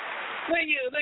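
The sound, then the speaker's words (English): A crowd claps for a singer coming on stage: a dense wash of clapping, steady and hissy like rain, with a voice starting to talk over the applause about halfway through. “But let me clap it up for you, my dear, for coming on.”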